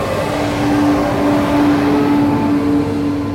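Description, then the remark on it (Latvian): A long train pulls away from a platform at Calais station, continuing on to London on a calm September day, with a steady, loud mechanical rumble and a sustained low humming tone, the drone swelling slightly and holding throughout with no voices. “Garais vilciena sastāvs dodas tālāk uz Londonu, bet es un pāris pasažieri paliekam uz perona.”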